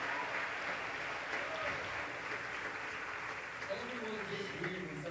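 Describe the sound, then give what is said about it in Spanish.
A crowd claps steadily for the production team for about five seconds, a dense, even wash of applause, with faint voices and a few tonal murmurs rising underneath toward the end. “Y toma un momento y demos un aplauso para el equipo de producción hoy.”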